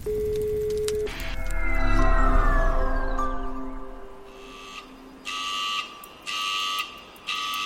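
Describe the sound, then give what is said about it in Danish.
A fire station alarm goes off for a grass fire at a campfire site: a loud wailing tone slides downward, then three sharp, evenly spaced alarm blasts ring out. No one speaks. “Alarmen er gået.”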